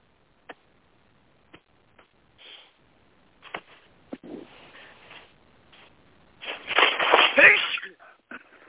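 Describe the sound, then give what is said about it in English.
A loud sneeze bursts out near the end, after a stretch of soft clicks, breaths and rustling noises. “Bless you.”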